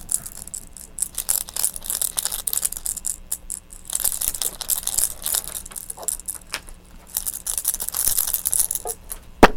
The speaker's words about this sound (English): Look. Keys.